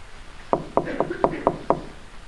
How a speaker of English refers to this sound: Can you hear the knocking at your heart's door? It's not that loud, but you can distinguish it. That's a knock. Knocking at your heart's door.